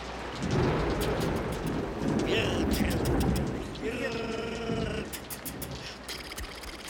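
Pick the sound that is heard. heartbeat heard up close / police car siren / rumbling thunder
rumbling thunder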